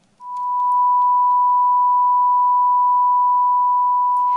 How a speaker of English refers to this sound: A pure tone is a sound wave with a single frequency. When two pure tones with the same frequency are sounded together, their sound waves are the same. They are matched, and the tone you hear is the same pitch and sounds in unison.